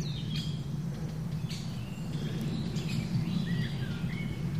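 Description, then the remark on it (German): A Eurasian nuthatch gives a series of short, high, very loud chip calls at an uneven pace, clear over a steady low rumble of background noise. “Jetzt hören wir gerade den Kleiber sehr laut mit seinem chip chip chip chip”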